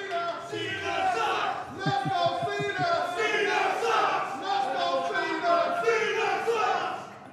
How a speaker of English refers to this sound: When you saw that, seriously, what was going through your mind when you're seeing people shouting at you that you suck, when you're seeing Die bullied?